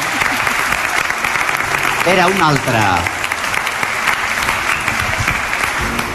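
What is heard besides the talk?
audience applause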